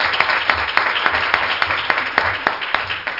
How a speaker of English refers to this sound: Praise the Lord. Let's give the Lord a great hand clap. Praise his name.